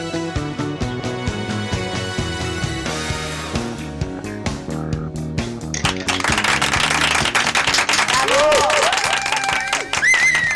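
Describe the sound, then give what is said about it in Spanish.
Music plays for several seconds, then a loud burst of crowd applause and clapping, played as a sound effect after greeting the audience, rises over it, with a few high whistles cutting through toward the end. “He saludado al público, me han puesto aplausos.”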